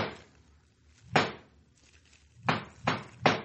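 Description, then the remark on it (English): Knocking on a door at a forge at night: a single sharp rap, a pause, then three firm knocks in a steady rhythm, with no one speaking; it is the masked boss's knock. “Yeah, that's his knock.”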